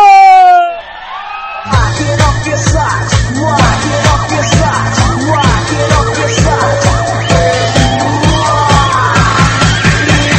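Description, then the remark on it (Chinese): A loud, rising whoop opens, then a dense, noisy crowd roars, screams and cheers continuously for about three seconds on request, with shouts and scattered yells layered over a steady low hum, sustained. “再来点三秒钟的尖叫”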